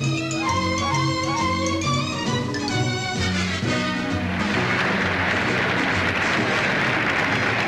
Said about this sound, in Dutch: Met een hartelijk applaus werden Thea Duif en Emmy Stad begroet